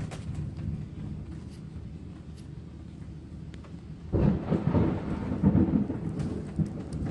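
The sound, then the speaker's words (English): A steady wash of heavy rain during a severe thunderstorm, then a deep rumbling thunderclap rolls in loudly around the midpoint and keeps grumbling for several seconds over the downpour. “Severest thunderstorm warning until now.”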